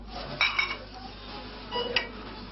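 Glass bottles clink inside a bottle-return machine in a store in Pécs, Hungary, in two short clattering bursts over a steady low mechanical hum.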